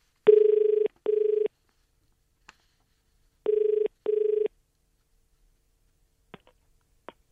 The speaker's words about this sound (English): The phone will ring, and you've got to answer it within five rings